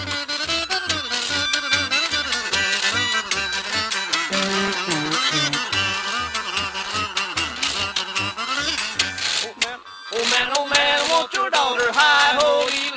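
A jug band on the Prince Albert Grand Ole Opry plays the lively traditional string-band tune Sourwood Mountain, with bright plucked strings over a steady, bouncing bass pulse. The music is loud and continuous, breaking off briefly near the end before picking back up.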